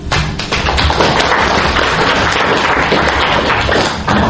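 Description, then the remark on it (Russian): A group breaks into steady applause at the end of the showing and discussion of a completed assignment, a dense, continuous patter of many hands clapping at even loudness for several seconds, with no voices over it. “Аплодисментами традиционно заканчивается показ и обсуждение выполненного задания.”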